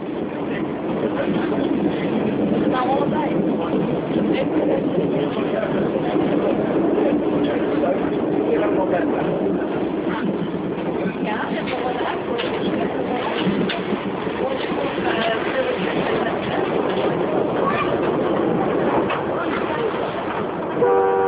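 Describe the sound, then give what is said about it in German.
Steady, continuous rumble inside a moving, comfortable passenger train in China, with a constant mid-level roar and faint, indistinct voices murmuring throughout. “In den äußerst komfortablen Zügen zum Beispiel, in welchen ein aufmerksamer Service die Fahrgäste verwöhnt.”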